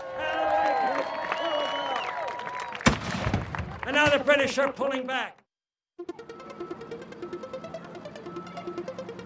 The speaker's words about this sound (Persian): بیاین بچه‌ها، برین جلو. ما پشتتونیم. بیاین با هم نیروهای آمریکایی رو تشویق کنیم.